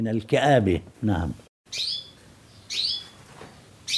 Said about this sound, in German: Der Wellensittich im Wohnzimmer von Mohammed Sider piept aufgeregt.